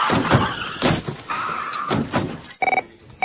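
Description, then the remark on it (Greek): A truck comes toward the speakers and rolls past, its loud rumbling and clattering noise surging and fading over a few seconds, followed by a short burst of tonal, horn-like sound. “Με συγχωρείτε, έρχεται ένα φορτηγό πάνω μας.”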